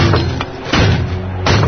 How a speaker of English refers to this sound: door won't shut. Not the chain. We break it off.